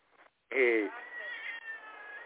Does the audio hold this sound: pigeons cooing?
no